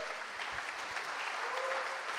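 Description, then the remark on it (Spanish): Loud, sustained applause from an audience applauding God during a sermon, a dense steady wash of many hands clapping at once, with faint cheering mixed in and no speech over it. “¿No crees que se merece Dios un fuerte aplauso, hermano de mi corazón?”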